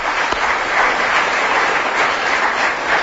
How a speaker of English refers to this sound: Joan Bakewell, our guest, who's never played the game before, came and did so well, and she's got only 1 point less than Kenneth Williams. So let's have a round of applause, because it's a very difficult game.